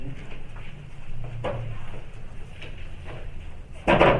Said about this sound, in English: Sure, just pull up an extra chair.